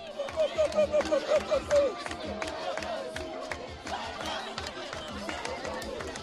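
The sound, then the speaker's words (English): A crowd cheers at a dance-off in Milo, Haiti, where three girls about 10 years old dance, opening with a string of about eight rhythmic, chanted whoops before settling into a steady, loud roar of shouting and overlapping voices. “You can hear sound of the crowd.”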